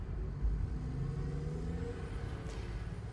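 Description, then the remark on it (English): A newly bought car drives along with a steady, low engine rumble and road noise filling the whole stretch, fairly loud, with no voices. “So, anyway, a few weeks ago I quit my job and bought this car and got my license, and now I'm driving.”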